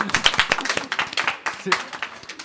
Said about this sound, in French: Je pense qu'on peut applaudir cette blague également.